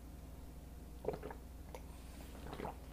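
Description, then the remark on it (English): Someone with a dry mouth quietly drinking water, with a few soft gulps and wet swallowing sounds spaced about a second apart, faint over a low background hum. Nobody speaks. “With respect to services, I have a bit of cotton mouth. I'm going to drink some water here.”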